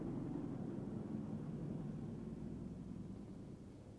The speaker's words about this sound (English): Hear the helicopter?